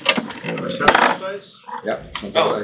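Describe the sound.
Several percentile dice clatter and rattle across a hard tabletop in quick, overlapping bursts, fairly loud, with voices murmuring underneath.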